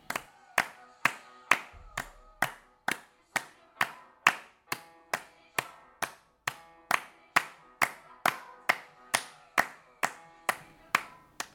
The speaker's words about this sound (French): Sur cette musique, on travaille beaucoup le tempo rapide. Les pulsations font très vite, mais elles sont régulières. On peut par exemple les reproduire en tapant dans les mains.